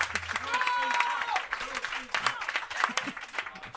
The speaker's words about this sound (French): Ça vaut la peine de l'applaudir pour sa première. Ben oui. On va l'encourager.